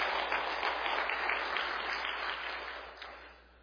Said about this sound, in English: Well, yeah, let's give them a round of applause, too.